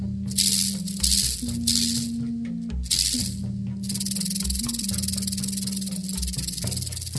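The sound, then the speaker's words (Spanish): A rattlesnake's tail shakes in a dry, hissing buzz like a maraca, coming in several surges and long sustained stretches, fairly loud over a steady low droning tone. “La serpiente parecía un arcoíris juguetón cuando sonaba su cola de maraca.”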